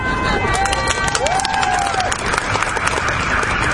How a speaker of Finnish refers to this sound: Tämä on sillä lailla mahtava yleisö, että spontaanit aplodit tulee pelkästään ottamalla mikki pois suun edestä.